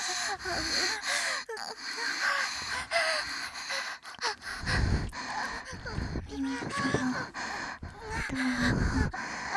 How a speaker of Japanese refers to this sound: こうやって吐息を吹きかけてると気持ちいいでしょ。